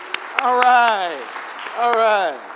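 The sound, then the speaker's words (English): A church audience at a Bible sermon claps briefly for Jesus, with scattered sharp claps under two loud, falling whoops or cheers, each lasting under a second. “Can we clap real quick for Jesus?”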